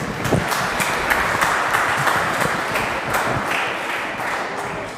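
A church audience applauds a volunteer during a sermon, steadily for about five seconds, many hands clapping at once in a dense, even wash of sound without any talking over it.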